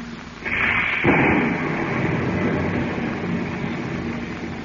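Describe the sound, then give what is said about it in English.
A sharp crack of thunder from a heavy storm over the Pacific breaks out about a second in and rolls into a low rumble, over a steady roar of storm noise that continues to the end. “You were not aware that each moment also carried you closer to the center of a heavy storm that thundered over the vast Pacific.”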